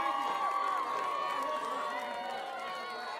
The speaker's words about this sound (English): Welcome to the Western Virginia International Minstrel Competition and Wet T-Shirt Contest. Give yourselves a big round of applause just for surviving the winter.